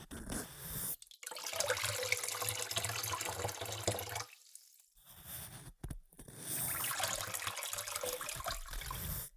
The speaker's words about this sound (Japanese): ではゆっくりかけ流しで泡を流しますね。